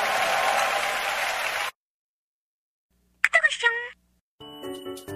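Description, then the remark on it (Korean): A crowd claps loudly as thanks to God in a dense, steady burst of applause that cuts off abruptly, followed by silence and then a short bright chime and sustained electronic tones. “다시 한번 하나님께 감사의 박수 올려드리겠습니다.”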